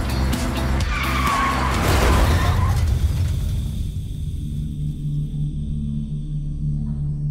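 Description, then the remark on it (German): Car tires skid with a loud, drawn-out screech over a low engine rumble, peaking in the first few seconds before fading into a lingering hum. “Bei einem heftigen Unfall geht es um Sekunden.”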